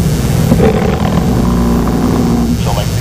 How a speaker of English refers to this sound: Not the selective call frequency, but the buzz as my pager was rattling and traveling across the nightstand.